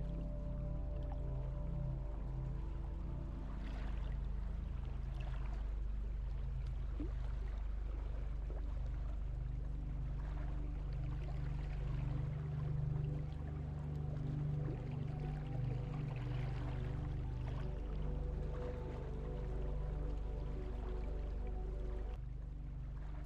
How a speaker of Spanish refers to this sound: Escucha el sonido del agua.